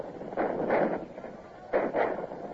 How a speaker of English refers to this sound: Here come their cannon. They seem to have plenty of ammunition to waste.